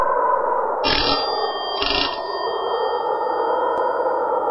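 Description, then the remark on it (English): A doorbell at a big house rings twice, two short bright bursts about a second apart, each leaving a faint high ringing tone that lingers over a steady background hiss. “Ring the bell, Peter.”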